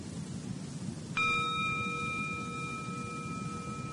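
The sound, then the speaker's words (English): A gong is struck once about a second in, then its bright metallic tone rings on steadily, slowly fading against a soft background hiss. No one speaks. “There was a gong.”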